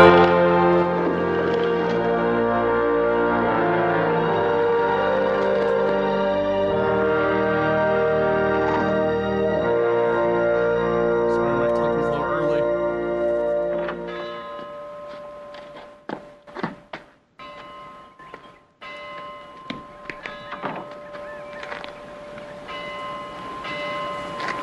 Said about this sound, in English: What do you make of that? Don't know. Sounds like a perfectly tuned bell.